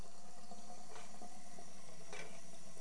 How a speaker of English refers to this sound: The water, did you notice the sink filled up? Whoa, careful. Okay, we're gonna turn off the water now.